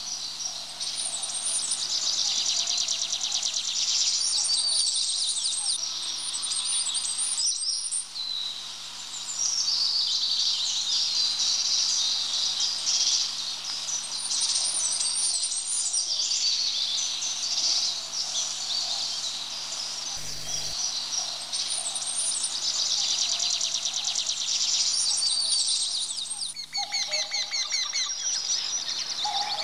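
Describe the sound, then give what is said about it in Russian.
A goldcrest sings from the top of an old spruce, its high, thin whistling song repeating in short trilling phrases, with dense high-pitched bird song filling the air throughout, steady, no voices present. “Прислушайтесь, какой нежный и тонкий свист. На вершине старой ели поет самая маленькая из наших птиц – королек.”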